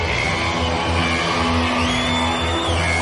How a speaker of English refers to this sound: We have a mad crowd in here tonight.